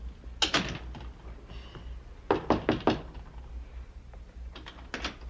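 Sharp knocking on a front door comes in three quick bursts of several raps each, separated by short pauses, with no voices in between.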